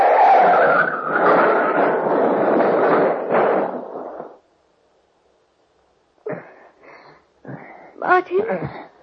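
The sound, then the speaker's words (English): A loud, sustained roar of a car skidding and grinding off the road into a ditch and turning over twice, lasting several seconds, then a sudden silence before voices begin speaking. “Don't touch that wheel! Martin, the ditch!”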